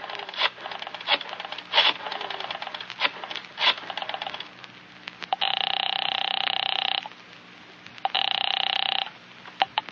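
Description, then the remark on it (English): A telephone rings twice in long, steady electronic buzzes after a few seconds of clattering, rattling clicks, with no voices. “At 10 o'clock, you pick up the phone again.”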